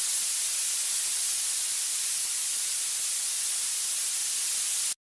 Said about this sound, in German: Oder violettes Rauschen.